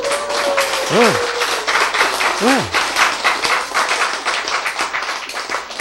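An audience breaks into steady, dense applause that holds loud for several seconds, with a couple of short rising-and-falling vocal whoops heard over the clapping early on.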